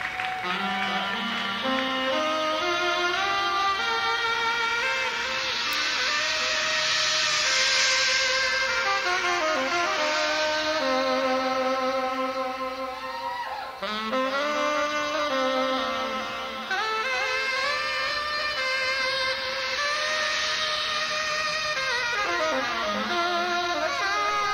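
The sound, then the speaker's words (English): A saxophone opens a late-1970s/80s jazz fusion track with a long unaccompanied-sounding solo line, loud and unbroken, its notes sliding and bending up and down in pitch for about twenty-five seconds without pause. “It's an introduction with a saxophone. Yes. And it just keeps going and going and going.”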